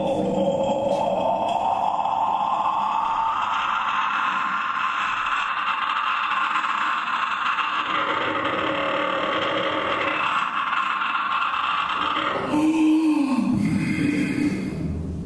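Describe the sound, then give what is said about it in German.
A female vocalist sings continuously while inhaling, a strained and breathy tone with several pitches sounding at once (multiphonics), slowly rising, then a sharp gasping glide near the end. “…s Technik des Singens beim Einatmen bringt sie jedoch an ihre physischen Grenzen”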